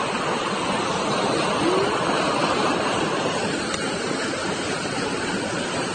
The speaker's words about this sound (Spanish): Estamos encima de la cascada, ¿eh? En las rejillas estas, totalmente encima de las cascadas. Qué bonito, ¿eh? Cómo se ve el agua ahí en medio de la rejilla.